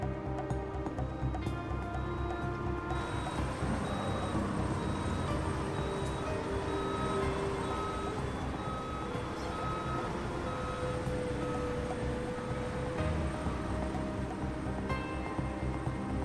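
A heavy truck bringing in explosives for a blast rumbles steadily and loudly throughout, with a regular high-pitched reversing beep repeating over it. No one speaks.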